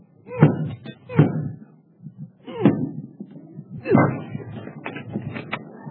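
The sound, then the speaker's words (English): A door being forced open: several heavy, irregular thuds and bangs, each followed by rattling and creaking of wood, with no one speaking. “No door is going to stop me from giving you what you deserve.”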